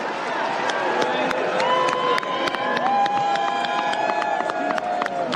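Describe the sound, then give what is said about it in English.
A large convention crowd boos Mitch McConnell loudly and continuously as Kentucky casts 46 votes for Donald J. Trump, a dense roar of overlapping jeering voices with scattered whistles and shouts rising above it, with no pause for the whole stretch. “Mitch McConnell getting booed.”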